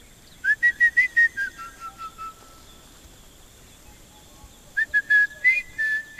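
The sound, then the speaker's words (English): A guide whistles in call and response with a robin chat calling from the forest by a lake, each mimicking the other, two bursts of clear, fluting, quickly repeated notes separated by a quiet pause, echoing around the lake, with faint outdoor ambience and no talking. “The guide whistled to a robin chat calling from the forest, each mimicking the other in a call and response.”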